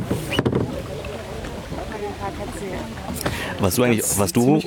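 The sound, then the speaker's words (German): A third wooden punt boat glides past on the water in the Spreewald, a steady wash of splashing and hull noise, while people chatter over it, louder toward the end. “Da kommt noch ein drittes Boot. Ja. Noch ein Kahn.”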